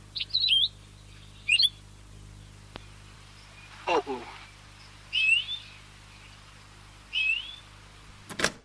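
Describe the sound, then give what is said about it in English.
A tape recording of the call of an endemic Hawaiian forest bird: a series of short, bright chirping calls repeat at intervals, clear, with a brief spoken exclamation in the middle and a low steady hum underneath. “And my team and I had been listening and training ourselves via tape recordings of various birds of that region to identify the calls of all of the endemic forest birds known from that place.”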